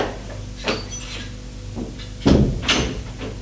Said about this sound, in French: Elle frappe à une porte. Entrez. Elle ouvre la porte et dit « Monsieur Scraff !»